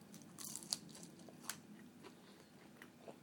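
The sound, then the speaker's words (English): Quiet crunching as someone bites into and chews a fried snack that has been sitting in silver foil for a while, with a few sharp, brittle crunches at irregular moments among softer chewing. No one speaks. “Maybe lost their crunch a little bit.”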